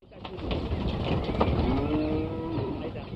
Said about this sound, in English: Cows trip down the mud-smeared ramp of a cattle truck into corrals at this meat-packing plant an hour and a half outside Buenos Aires.